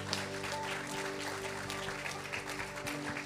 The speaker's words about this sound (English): Can we give God an applause this morning?